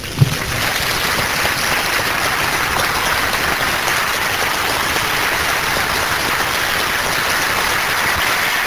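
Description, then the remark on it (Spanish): An audience at a religious service applauds for Christ Jesus, a dense wash of many hands clapping at an even loudness for several seconds, with no voices rising above it. “Vamos a darle un aplauso a Cristo Jesús.”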